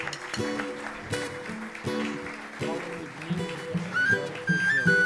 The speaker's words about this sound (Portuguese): Salva de palmas. Um grande músico da nossa terra.